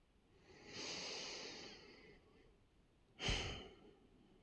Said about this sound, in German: Und atmen.